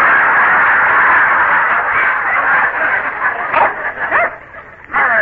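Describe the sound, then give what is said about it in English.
A hypnotized man imitates a big brown Airedale barking, letting out a few rough, throaty barks in quick bursts over a steady wash of background noise. “…, you are an Airedale. A big, brown Airedale. Speak.”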